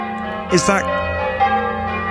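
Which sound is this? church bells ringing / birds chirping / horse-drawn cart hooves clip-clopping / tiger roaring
church bells ringing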